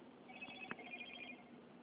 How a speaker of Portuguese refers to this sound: Você falou do sininho, mas até chegou como notificação.